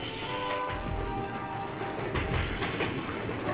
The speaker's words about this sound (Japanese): レールを敷いて列車を走らせる。